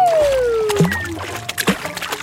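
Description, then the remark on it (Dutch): A descending whistle-like slide gives way to two separate splashes, about a second apart, as two chicks are blown off a grandstand by a sneeze and drop into water, with gentle sloshing between them. Fairly loud, with no voices. “Olly moet zo hard niezen dat de 2 kuikens van de tribune worden geblazen en pardoes in het water vallen”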